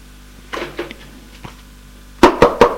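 Several sharp knocks on a door: a few softer raps early on, then four loud, evenly spaced knocks near the end, with no talking.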